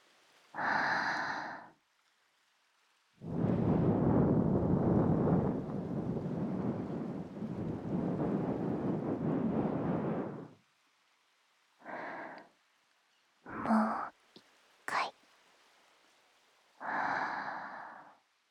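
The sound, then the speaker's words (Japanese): Breath is blown straight onto the microphone, making rumbling, windy gusts: a short puff, then one long sustained blow lasting several seconds, followed by a few brief puffs. No one speaks. “吹きかけられている間波の音も忘れてしまったんじゃないかしら。”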